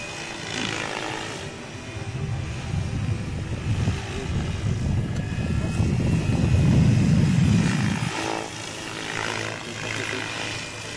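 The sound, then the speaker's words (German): A model helicopter performing ground acrobatics: its rotor whirs steadily with a low, fluttering chop that clearly drowns out the motor, swelling louder toward the middle with changing load before easing back slightly, with no voices over it. “Man hört natürlich sehr deutlich bei diesem Modell das Rotorgeräusch, das den Motor bei weitem übertönt.”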